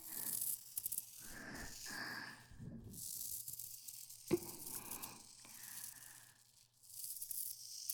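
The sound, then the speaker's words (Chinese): Continuous rustling and sliding of a snake's scaly tail coiling tightly around a person and rubbing, in soft swelling waves with one sharper tap midway, no voices. “用我的蛇尾紧紧地裹着官人。”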